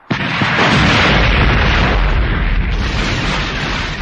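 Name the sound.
bomb explosion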